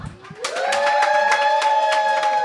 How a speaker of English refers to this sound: Lots of clapping. We like clapping. It validates us.